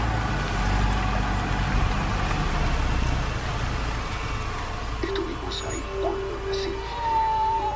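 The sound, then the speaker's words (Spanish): A steady, dense low rumble of traffic in a jam, with engines idling and cars creeping along, fairly loud, plus a few brief tonal honks or whines near the end. “Simón está en un embotellamiento. Los autos avanzan de a poco.”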